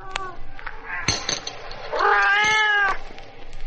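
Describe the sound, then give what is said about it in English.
A cat meows loudly, one long, drawn-out wavering cry lasting nearly a second, preceded by a couple of shorter, softer chirping mews, as it is offered cubes of frozen milk in a saucer. “won't touch frozen milk. No cat will.”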